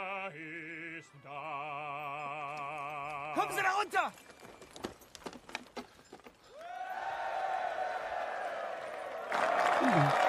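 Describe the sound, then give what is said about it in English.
A few seconds of sustained, wavering musical tones give way to scattered clapping, then Scottish soldiers in a trench break into loud, sustained cheering and applause for the music, swelling toward the end. “German lieutenant is really suspicious, and then all the Scottish ones start clapping and cheering for the music.”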